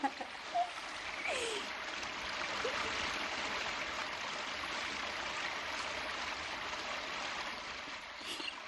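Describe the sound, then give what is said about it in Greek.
A steady stream of liquid pours and splashes continuously, the pee of mummy figures set off by pulling a cord on their backs, a constant hissing rush that stays even and fairly loud for several seconds with no talking. “Τσίσα τους. Αυτό είναι άλλο ποταμό.”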